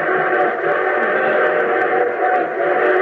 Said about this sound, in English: But our train whistle sounds closer. Well, of course it sounds closer. It's going to pass within a mile and a half of it.